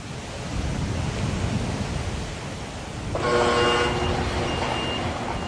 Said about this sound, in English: On a restricted site in northern Wisconsin, the hissing you hear helps scientists see the future. This is an elevated CO2 ring. Inside these towering rings of pipes, scientists are feeding trees what could be the atmosphere of tomorrow.